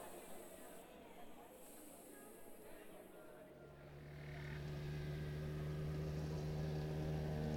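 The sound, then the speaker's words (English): A motorbike engine starts up partway through and settles into a steady, loud, low idling rumble that continues to the end, with a faint hiss and murmur beforehand. “Motorbikes. Machine and I. The freedom that sound brings, limitless routes taken and paths found, possibilities, wide-eyed, awake and alive.”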